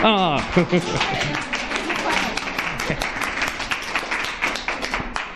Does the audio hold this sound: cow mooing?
no